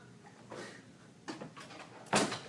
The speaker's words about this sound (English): I'm just going to close the door for a second.